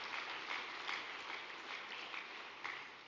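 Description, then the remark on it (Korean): A crowd applauds steadily for about three seconds in thanks to the True Parents of Heaven, Earth and Humankind, a dense, even patter of many hands clapping at once with no voices over it, holding a fairly constant level throughout. “은혜를 내려주신 천지인 참 부모님께 감사의 큰 박수를 올려주시기 바랍니다.”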